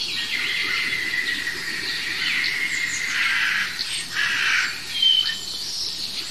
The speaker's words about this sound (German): Das ist eine echte Krähe.